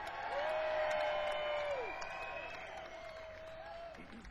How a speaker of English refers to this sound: And ladies and gentlemen, how about a big round of applause for the godfather of the British blues, Mr. …!